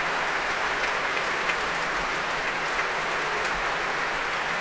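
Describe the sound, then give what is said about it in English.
A large concert crowd at the Royal Albert Hall applauds steadily as the soloist and conductor Stéphane Deneuve return to the stage after a Royal Scottish National Orchestra performance, dense clapping filling the hall with a continuous roar, occasional cheers rising within it, sustained and even throughout without any talking. “The soloist, the conductor, coming back to the stage now to take more of these rapturous cheers from the crowd here at the Royal Albert Hall and from the orchestra too.”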